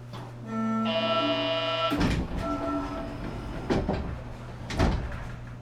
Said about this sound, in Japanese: トレードセンター前、右側の扉が開きます。ご注意ください。